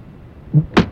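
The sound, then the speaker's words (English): A hand slaps down on the top of a small table, a dull thump followed a moment later by a sharper, brighter smack, with no one speaking. “Right, you hit the top of the little right. table there. Just kind of slapped it.”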